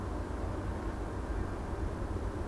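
A distant train with its bell rumbles low and steady, a continuous muffled roar that holds constant without clear breaks, heard at 20:57 from a front step by a street in cold weather with little wind, with no voices present.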